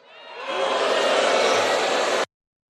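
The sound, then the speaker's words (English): A crowd at a political speech about socialism boos loudly, a thick, sustained wall of jeering voices that swells in over the first half second and holds steady before cutting off abruptly. “I have to assume that the booing you heard was people saying, that doesn't make any logical sense.”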